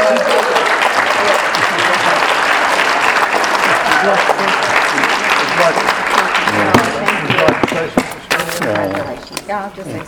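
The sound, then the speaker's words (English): Sustained, loud audience applause honoring a woman's efforts and successes in bridge, with dense, steady clapping that thins out toward the end, with a few voices audible beneath it. “I don't know how she does it, they don't know how she does it, but we all applaud her great efforts and great successes.”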